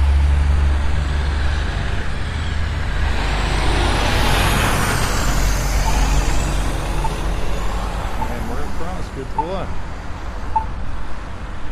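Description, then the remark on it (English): Busy street traffic with heavy trucks rumbling past at a street crossing with accessible traffic control, a hiss of air brakes rising over the steady low roar, and faint chirps and beeps of the crossing's locator signals scattered through the background. “All right, here's our halfway street viewing with an accessible traffic control here, and looks like we have the traffic.”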